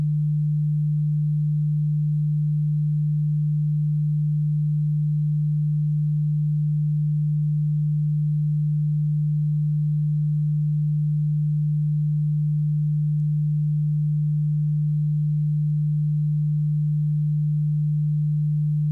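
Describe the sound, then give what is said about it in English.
A steady, low-pitched pure sine tone hums continuously and unchanging for the whole stretch, clear and moderately loud with nothing else around it. “In your right ear, I am going to play a frequency of 150 Hz.”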